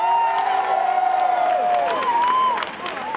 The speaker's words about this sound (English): Thank you, thanks. And how about a big round of applause